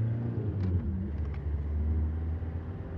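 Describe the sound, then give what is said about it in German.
A car engine rumbles steadily from inside the moving vehicle, a deep continuous drone with a few faint higher ticks near the start, no voices over it. “Und wir hören, was für ein tolles Auto wir fahren.”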